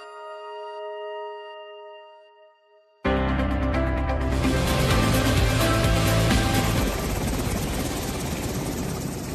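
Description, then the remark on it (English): A steady, ringing tone fades out, then a loud U.S. Coast Guard helicopter on the Gulf Coast roars in abruptly, its rotor blades chopping in a fast rhythmic thrum that stays constant to the end. “Helicopter blades spinning, safety harnesses on, and a crew ready for anything Mother Nature blows their way.”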